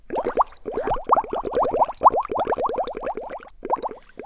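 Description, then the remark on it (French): Waste water gurgles and bubbles in a rapid, steady stream of wet plops at a wastewater treatment plant. The sound is fairly loud, with no voices. “Philoche arrive déjà à la station d'épuration, là où partent toutes les eaux usées.”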